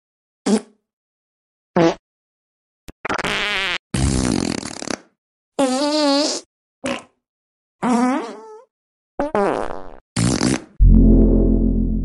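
A rapid series of about ten fart sounds for the character Fart Man, some short pops and others longer wobbly, squeaky blasts, ending on a deep, rumbling one. Loud, with no talking.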